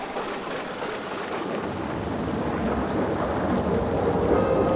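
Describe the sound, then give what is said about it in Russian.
Steady, heavy rain pours down in a continuous dense hiss, with a faint low rumble underneath and the downpour swelling slightly louder toward the end. No voices. “Ведь поливает нас дерьмом, как этот дождь.”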